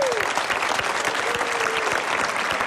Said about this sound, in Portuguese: Um aplauso para o Miquel Solnado, também está aqui.